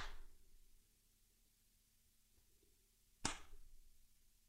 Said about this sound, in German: Das finde ich super, da gibt es Applaus.